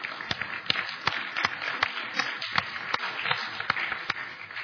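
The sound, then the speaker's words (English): A church audience applauds steadily, giving the Lord a hand of praise for a newly married couple, a dense wash of many hands with sharper, regular claps cutting through at a quick, even beat, holding at a fairly constant level throughout. “and I would ask them to stand quickly that we might give the Lord a mighty hand of praise.”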